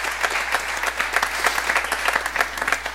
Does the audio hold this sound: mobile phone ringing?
no